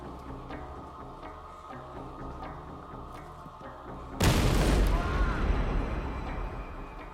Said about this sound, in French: L'explosion le blessa gravement.